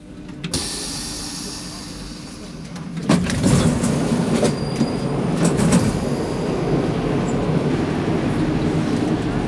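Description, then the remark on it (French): A metro train rumbles along steadily, with sharp metallic clanks and a brief high squeal of wheels on rails rising above the continuous roar. “Vous alliez où en métro”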